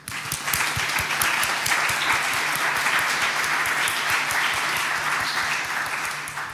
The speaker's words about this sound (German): Und da auch nochmal einen großen Dank, das ist nämlich eins der Teams, was ich nicht genannt habe. Chaos macht Schule, immer wieder gern gesehen hier. Bitte einen Applaus für die.